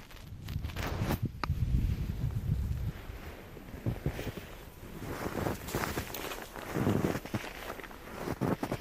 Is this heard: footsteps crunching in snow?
yes